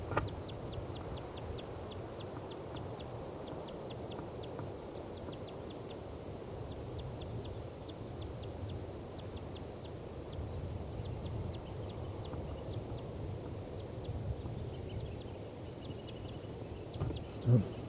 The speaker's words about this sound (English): P95's flight call. That's the female.